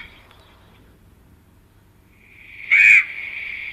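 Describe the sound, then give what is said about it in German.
An excited common raven: a single loud, harsh call bursts out near the end, preceded and followed by fainter, drawn-out croaking tones; no one speaks. “Also ziemlich aufgeregt, aber die haben ja ein ganz breites Repertoire.”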